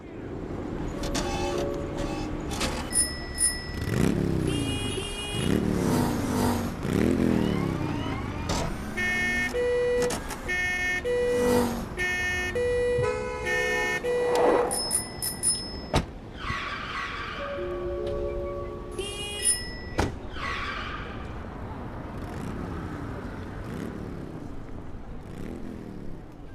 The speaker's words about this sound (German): Also in welchem Takt klingen hier die Autos, Fahrräder, Feuerwehren?